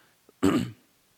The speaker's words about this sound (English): I hope you'll pardon my coughing tonight. For some reason, I got a tickle in my throat and I can't get rid of it.